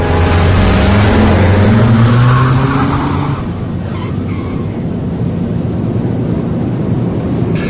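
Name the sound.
car engine accelerating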